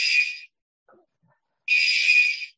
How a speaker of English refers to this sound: Okay, we're back. Apparently they were testing the alarm. And as you now all heard, it works.